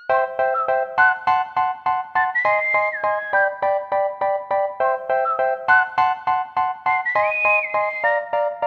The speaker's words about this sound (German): Nicht ignorieren können wir jedoch das gesungene Titellied. Oder soll das sogar gerappt sein?